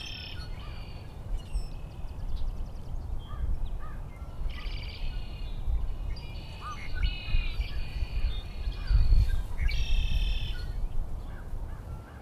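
A song sparrow sings in the cattails close by in repeated bright, trilling phrases, with other birds calling around it over a steady low rumble of wind or traffic.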